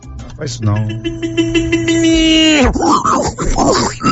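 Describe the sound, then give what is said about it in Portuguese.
A loud, sustained squeal holds a steady pitch for about two seconds, then breaks into rough, choppy grunts and snorts like pigs in distress, as a Kombi van runs over six pigs. “manda um Kombi atropelando seis porcos aí.”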